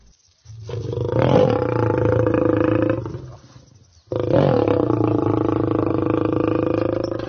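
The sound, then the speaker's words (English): A lion roars twice, each roar long, deep, rumbling and loud, with a brief gap between them and no voices present. “They do not growl like a lion.”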